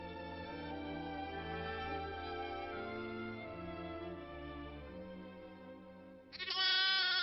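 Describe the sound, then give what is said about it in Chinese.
A lamb lets out a loud, wavering bleat as a lion seizes it, near the end of several seconds of steady, sustained tonal background music with no talking. “哎呀，不好了，狮子，他抓走了我的一只小羊啊！”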